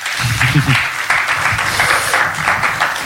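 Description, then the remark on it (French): Sustained applause from an audience for Erwan Chandon, a dense steady wash of many hands clapping at an even loudness, with faint voices murmuring underneath throughout. “Et voilà, donc là on peut applaudir Erwan Chandon.”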